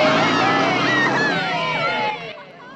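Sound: bus driving away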